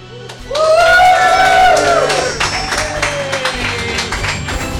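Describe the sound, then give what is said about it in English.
An audience at a live Dungeon Master-led role-playing game show bursts into loud applause for the players, with high whooping cheers rising early and then fading while steady clapping continues to the end. “All right, without any further ado or any more of me, please give a big round of applause for our players tonight.”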